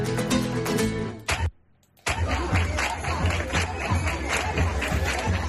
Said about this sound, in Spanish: Con estas palmas por Huelva arrancaba esta mañana. Era el momento en el que salía ese sin pecado de la hermandad de Huelva hacia la carroza.